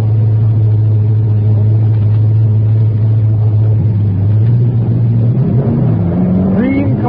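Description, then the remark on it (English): Loud, steady engine roar with a deep drone, then rising pitches toward the end as race cars rev and whine past, circling the track during an evening race at the Polo Grounds. “right now we've had the signal from the polo grounds that one of the most exciting moments in this evening's race is about to take place.”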